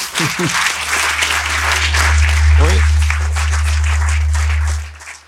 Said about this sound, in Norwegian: Ja, det uansett verdt en applaus da.